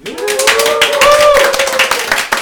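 A live audience claps steadily and densely for a couple of seconds, loud, with a sustained cheer or whoop riding over the applause.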